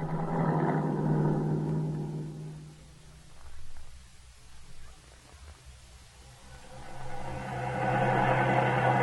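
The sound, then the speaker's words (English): Harrington's car, driven by a stranger, passes with a steady engine hum that fades to a low rumble midway before the motor drone swells again, with no talking. “wasn't that Harrington's car? It certainly was, with a stranger driving it.”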